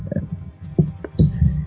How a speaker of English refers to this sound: I moved it and it made a clicking noise.